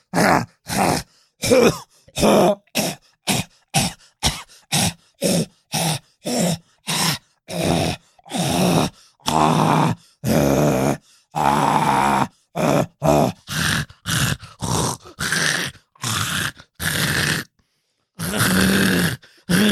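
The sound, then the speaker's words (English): A voice imitates a harsh, hacking cough from popcorn stuck deep in the back of the throat, in a long run of short, rough bursts with brief pauses between them, loud, mixed with groaning and grunting strains. “Meanwhile, I got some popcorn stuck in my throat and I started coughing really bad.”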